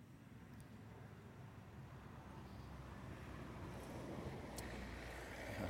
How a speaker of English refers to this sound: I can hear the birds in the background. I can hear the wind blowing through the trees, the cars passing by.